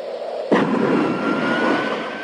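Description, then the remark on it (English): A jet takes off in the background of Nike's 1985 Air Jordan basketball shoe commercial, a sudden roar that swells into a steady, broad rushing thrust and a thin high engine whine. Loud and sustained, with no voices. “A man dribbles down a blacktop in slow motion, then elevates for a dunk to the sound of a jet taking off in the background.”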